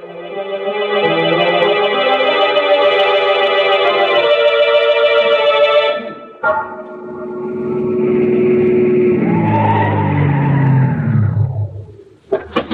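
A car engine roars as tires squeal loudly in a sustained, high skid, then the vehicle accelerates away, its engine note rising and falling before fading out, with no talking.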